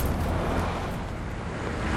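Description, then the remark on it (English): A steady, heavy rumble of truck engines rolls on without a break, deep and fairly loud, as a convoy of trucks, including armored trucks and led by a pickup truck, drives down a curving, dimly lit street in Bakuba. No voices are heard. “The pickup truck leads the convoy down a curving street.”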